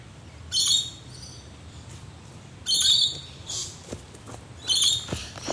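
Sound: birds singing outdoors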